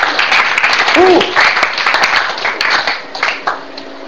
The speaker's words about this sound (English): Give Jesus a good clap offering. Hallelujah.